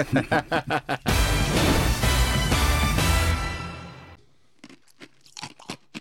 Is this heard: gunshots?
no